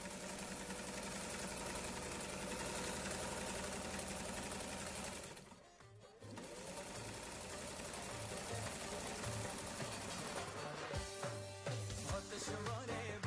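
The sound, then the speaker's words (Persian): A sewing machine runs in a loud, steady, rapid mechanical whir and clatter, stops briefly partway through, then starts up again with a faster, choppier rhythm. “همین لحظه که ما از لباس سخن میگیم یا سخن میزنیم زیر دست یا پای یک تعداد از شنونده های ما ماشین های خیاطی روشن است و چالان است”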